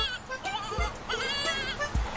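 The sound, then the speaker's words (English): A battery-powered screaming goat button toy, pulled and switched on, gives a loud, harsh goat bleat with wavering, strained harmonics, repeated in two quick screaming bursts, sounding mechanical and tinny. “We have the screaming goat button that needs batteries.”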